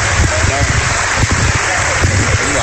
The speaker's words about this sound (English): The Indian Spades will give him a nice round of applause.